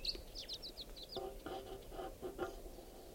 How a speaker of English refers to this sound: So, pointing out the wild bird. In flight. Lone bird.